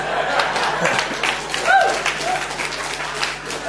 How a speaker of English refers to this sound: I don't know why you're clapping. That was lamentable.